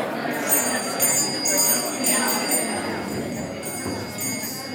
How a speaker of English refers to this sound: Wow, you guys are not like Buddhists. Buddhists obey the bell.